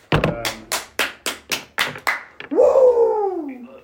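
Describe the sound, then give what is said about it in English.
A man claps about eight sharp hand claps in a steady, fairly quick rhythm, loud, followed by a drawn-out yell from him that rises and then slides downward. “I don't know why the guy who's not good at fantasy is clapping and yelling over there.”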